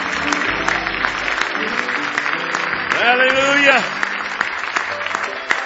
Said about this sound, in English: Oh, give Him a big hand clap of praise if you love Him with all your heart tonight.